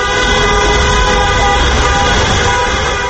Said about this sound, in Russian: Проезжавшие мимо автомобилисты приветствовали их гудками.